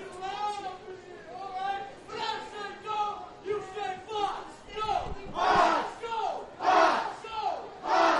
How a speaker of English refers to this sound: Inside pitch, ruled a strike on a backdoor slider from the inside. And the crowd does not like that one. You hear the boos here in Danville.